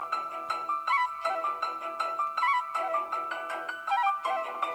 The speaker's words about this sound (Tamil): அம்மா, அம்மா, அம்மா, அக்கா வீட்டிலேருந்து ஃபோன் வருதுமா? என்னடி சொல்கிற, அக்கா கிட்டேருந்து ஃபோனா?